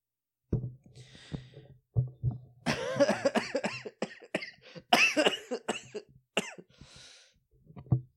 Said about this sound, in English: That's the cough again, in case you forgot about it, in case you forgot or fell off. That's the cough.